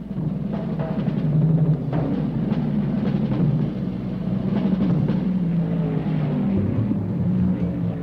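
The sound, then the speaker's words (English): Loud, dense roar of several racing car engines accelerating together at the running start of a race at Daytona, including Surtees in the number 77 Ferrari on pole and Bob Bondurant in the number 72 Ford GT; their pitch shifts as they pull away, without pause and with no voices. “Surtees in number 77 Ferrari, the fastest qualifier on the pole. Car number 72 Ford GT, Bob Bondurant on the outside.”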